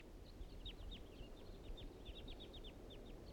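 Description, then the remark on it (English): Wild birds flying around a clearing near a trap site give rapid, irregular bursts of short, high, downward-sliding chirps, many calls overlapping, fairly faint over a steady low rumbling background. No one speaks. “The wild birds are coming back. Now they're flying around the clearing.”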